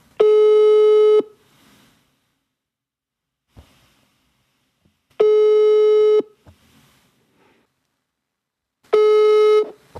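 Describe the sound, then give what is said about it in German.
A telephone ringback tone sounds three times while a call is being placed, each buzzy tone lasting about a second with long silent gaps between, loud and clear with no one speaking. “Ja, ich rufe die Ingrid mal an.”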